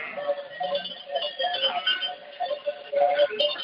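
A flock of sheep bleats continuously in the Dehesa Trebeña, many wavering, mid-pitched cries overlapping one another at a steady, moderate loudness with no talking.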